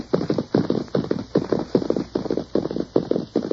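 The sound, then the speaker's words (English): Rapid, rhythmic hoofbeats of a horse clip-clopping at a brisk pace as it is ridden ahead, steady, with no voices over them. “Now, you ride ahead and ask if we can water our horses.”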